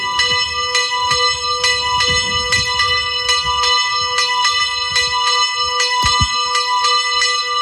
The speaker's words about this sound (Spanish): Es una de las campanas de la ermita de San Marcos que hoy vuelve a contar con una de sus campanas.